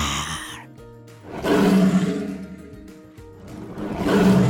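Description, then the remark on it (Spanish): A wildcat roars twice, each a loud, raspy, low-pitched bellow that swells and fades, with a quieter rumbling growl before the first and a brief lull between them. No one speaks. “Estaba malísimo este gato montés y rugía y rugía.”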